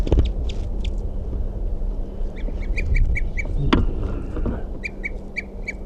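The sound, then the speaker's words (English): Birds tooping in a nearby tree: short, high, evenly spaced calls repeated in quick series over a steady low rumble, with a few harsher scuffling bursts as a couple of birds fight. “Recording 9:17, and there's tooping in the nearby tree. A couple fighting going on.”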